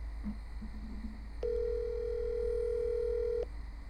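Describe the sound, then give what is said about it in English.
A single two-second burst of a phone's ringing tone, a steady electronic hum heard over the line against low background hiss, with no one speaking. “Two ringy dingies.”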